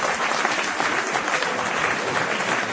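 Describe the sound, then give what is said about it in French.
Steady audience applause as the gathering applauds its own mobilization for winning a concession from the rector over education in Livradois, a dense, even patter of many hands clapping at a fairly loud level with no voices standing out. “Donc là, encore une fois, je pense qu'on peut s'applaudir parce que c'est grâce à nous qui refuse.”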